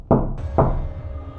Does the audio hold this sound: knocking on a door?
yes